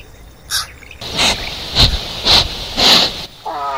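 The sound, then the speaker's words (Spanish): A jaguar (yaguareté) gives a series of harsh, breathy rasping growls in a slow, steady rhythm, each rough burst fairly loud, with no talking over them. “¿Quién es? Me parece que es el chaguarete. ¡Ah! Claro, tiene una poderosa mordida.”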